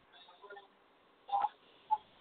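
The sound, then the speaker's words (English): A caller's phone call being put through live: a thin, narrowband telephone hiss, then two short electronic beep-clicks, the first louder and slightly longer, with a brief pause between them. “let's take a phone call. Live here on Inner Sight. Okay, here it comes.”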